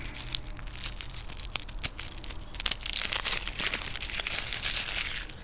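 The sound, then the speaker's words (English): The plastic packaging of fireworks (bottle rockets) is torn open with sharp crinkling and ripping, a few distinct tugs early on giving way to a steady, louder rustle of crumpling wrapper. No voices are heard. “Open up these bottle rockets.”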